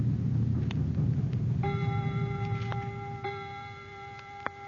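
A clock strikes nine o'clock, its resonant chime tones ringing out and struck again every second or so, following a brief low rumble. Faint ticks sit underneath, and no one speaks.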